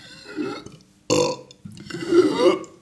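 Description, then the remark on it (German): A deliberately forced, artificial burp comes out in a few gravelly bursts, with a brief gulping sound between them and a longer rumbling push at the end. “Also das ist schon so, das ist kein besonders eindrucksvoller Rülpser, aber es ist ein merkbarer.”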